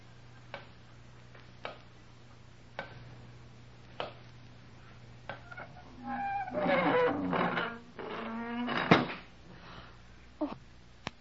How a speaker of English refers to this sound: Oh, someone's closed the door. We're locked in.